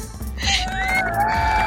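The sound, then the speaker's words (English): A cheering crowd sound effect: a crowd cheering and shouting in a dense, steady roar, with a few high whistle-like tones sliding over it, lasting under two seconds. “No, that's the yays. I need a boo.”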